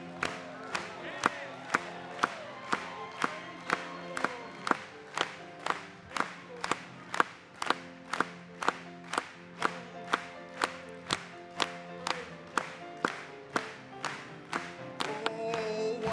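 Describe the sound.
An audience claps together in praise of Christ in a steady, even beat, roughly two claps per second, over sustained music and voices, with scattered cheers rising toward the end.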